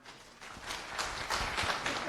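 An audience applauds, a dense wash of overlapping claps that swells slightly after the start and holds steady at a moderate level, with no voices.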